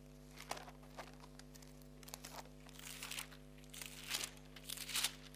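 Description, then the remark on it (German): Pages of a Bible being flipped to Jeremiah chapter 27, a run of soft, papery rustles and crinkles that swell louder toward the end, with a low steady hum underneath and no talking. “Wir blättern, wir forschen, wir fragen.”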